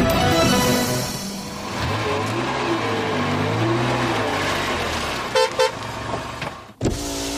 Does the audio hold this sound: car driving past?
yes